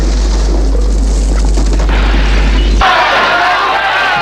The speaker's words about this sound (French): Il y a eu une grande explosion.